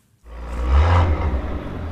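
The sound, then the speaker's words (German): A tuned car engine at a tuning trade fair in the southwest rumbles up from near silence, its deep growl swelling into a loud rev that holds steady, with no voices over it. “Manche mögen es eher knarrig brummelig.”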